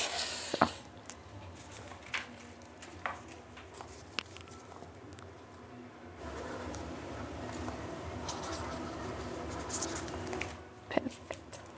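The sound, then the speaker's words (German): A pen scratches across paper in quiet, uneven strokes with a few sharp taps as someone writes an entry, while faint low murmuring sits in the background. “Und jetzt tragen Sie sich da bitte ein.”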